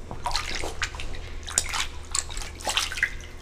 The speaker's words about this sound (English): At the Marine Mammals of Maine Triage Center in Harpswell, a sick seal that was found on a beach when the spike first hit appears to be on the rebound as she splashes in a small pool and eats herring for breakfast.